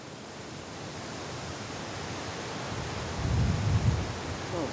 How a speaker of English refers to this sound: Windy. Windy day.